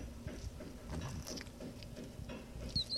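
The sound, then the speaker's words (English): A short, high-pitched laryngeal rodent squeak near the end, rising and falling quickly, set against soft pattering and scuffling noises with no voices. “That was a good That's squeak.”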